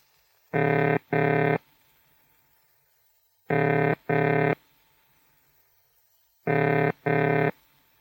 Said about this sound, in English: The ringing tone is a pair of low-pitched burring sounds repeated with a fairly long pause after each pair, like this.